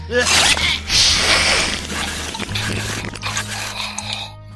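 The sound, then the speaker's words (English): Wet, squelching chewing noises from creatures being fed, loud, with slurps and squishes rolling on continuously over a low, steady droning hum. “Oh, chew that. I knew you would lack that.”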